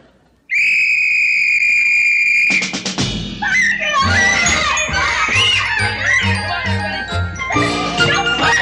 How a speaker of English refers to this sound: would you blow the whistle?